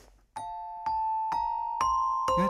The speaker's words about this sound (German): Aber ich habe mein kleines Glockenspiel hier. Und ich spiele es dir vor und sobald du es erkennst, rufe ich rein, oder rufst du rein.